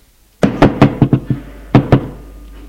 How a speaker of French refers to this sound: L'on frappa à la porte.